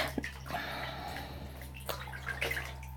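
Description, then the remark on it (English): Steady rushing water with irregular splashes and sharp droplet hits, water splashing in a shower, with a constant low hum underneath and no one speaking. “So here I am. Splashy splash.”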